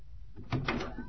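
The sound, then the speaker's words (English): A closet door is pulled open, a short rattling scrape with a couple of quick knocks lasting under a second, heard alone and fairly quiet. “come out of that closet or we'll shoot through the door.”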